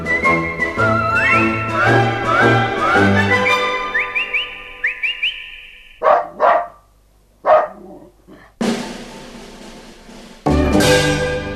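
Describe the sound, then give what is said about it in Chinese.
A short, whistly melody with sliding notes gives way to a few sharp dog barks, spaced apart, followed by a burst of hissing noise. “亲爱的小朋友，你喜不喜欢小狗啊？”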